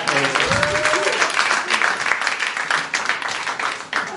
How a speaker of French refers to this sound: Bonsoir, désolé, applaudissez cette dame qui est cocu.